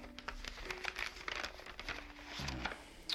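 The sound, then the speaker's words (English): A sheet of paper rustles and crinkles as a note handed over by a hotel concierge at the desk in Marrakesh is unfolded, a few seconds of soft crackling handling with no voices. “We were picking up our room keys at the desk when the concierge handed me a note.”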